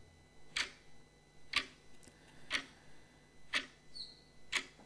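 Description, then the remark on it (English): A clock ticks steadily, five crisp, evenly spaced clicks about a second apart, fairly quiet, with a faint hum in the background and no voices. “This clock is still ticking.”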